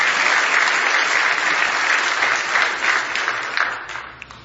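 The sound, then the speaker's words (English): Sustained audience applause for visiting guests, a dense wash of many hands clapping at steady loudness before gradually thinning out, with a few scattered final claps near the end. “Let's give them a nice hand, Brother Robert and his people.”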